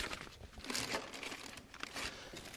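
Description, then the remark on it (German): An unnecessary plastic bag that a replacement lid came packed in crinkles and rustles continuously as it is handled, with uneven bursts of crackling over a few seconds and no voices. “Diese Plastiktüte war eingepackt in so einer Papierplastiktüte.”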